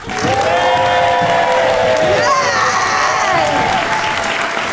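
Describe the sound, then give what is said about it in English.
A live MacArthur audience claps loudly and steadily for the whole stretch, applauding to vote for the side they think made the best case in a debate, with cheers, whoops and shouted voices rising over the dense wash of applause. “So instead I'm going to call upon our live MacArthur audience to make it for us.”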